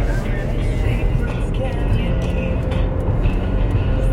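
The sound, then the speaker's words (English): Steady low rumble of a car interior while driving to Starbucks, a constant engine and road drone filling the cabin at moderate loudness with no pauses or distinct events. “And then I got in my car and I'm going to Starbucks now.”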